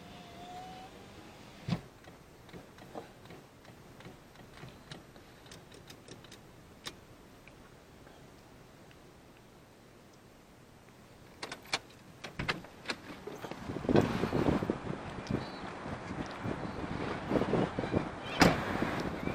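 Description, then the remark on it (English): A car idles and rolls to a stop with a few scattered clicks and knocks, then a louder burst of rustling and a solid thump like a car door shutting. “There's a coffee right there, so, and there's a trolley there, so I'll park over here.”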